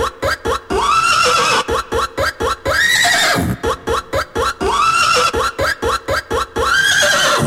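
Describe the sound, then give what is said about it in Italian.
A loud horse whinny, a shrill, quavering neigh that rises and falls, repeating in several stuttering bursts with no talking over it. “Che tocca adesso il cavallo. The horse.”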